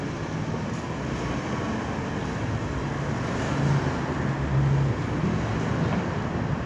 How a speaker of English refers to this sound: Lord Jesus, we have, you know, a lot of stuff moving around today. Lots of traffic. But the traffic's not the only thing that's moving today.